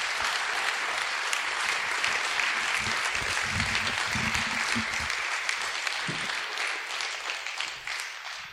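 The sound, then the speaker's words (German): A crowd claps steadily and densely for several seconds, a warm round of applause for a man brought on stage, a sustained wash of applause that gradually thins and fades toward the end. No one speaks over it. “Lass uns ihm einen herzlichen Applaus geben.”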